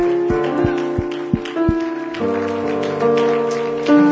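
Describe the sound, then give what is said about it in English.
A church audience claps steadily for the pastor, his wife and his daughter in a dense, continuous wash of applause, with sustained keyboard or organ chords ringing underneath and a few low thumps early on. “And so if you love them, would you give God a big round of applause for your pastor, his wife, his daughter, amen.”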